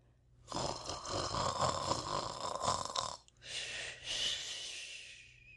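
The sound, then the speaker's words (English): A voice imitates snoring for the character Tommy Brock in a narrated story: a long, rough, rattling snore, a brief pause, then a second breathy snore, loud and alone with no talking. “Tommy Brock snored conscientiously.”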